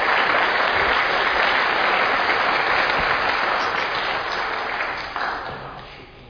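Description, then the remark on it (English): A church audience claps during a service in a dense, steady wash of applause that holds loud for about five seconds, then thins and fades out toward the end. “I think it's okay if you want to clap.”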